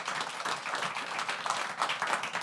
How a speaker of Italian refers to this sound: Facciamo un applauso all'editore che è anche qui presente in sala.